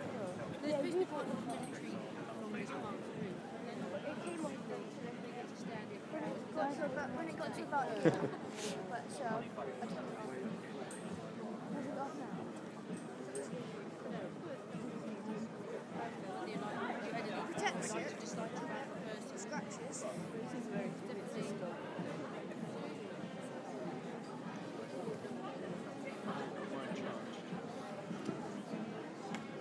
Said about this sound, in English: Police officers are all chatting with the crowd, which is nice. It's a really nice atmosphere down here, actually.